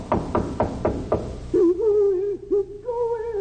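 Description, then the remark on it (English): Four sharp, evenly spaced knocks on an unlocked door with a faint light showing under it. Then a wavering, tonal voice answers, rising and falling in pitch. “Better knock before I go in.”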